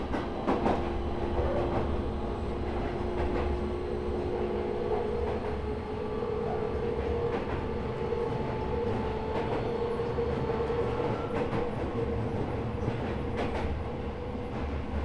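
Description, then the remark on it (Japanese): A local commuter train bound for 大谷 (Ōya), with the next station 椎名町 (Shiinamachi), rumbles steadily along the rails with a continuous low roar, faint rhythmic clicks and a sustained tonal hum, with no voices heard. “This is a local train bound for 大谷.”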